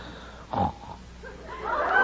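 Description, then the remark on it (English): A man snores loudly, with a short, rough snort followed by a longer, rising, rasping snore a moment later. “How do you like that? Snores off key.”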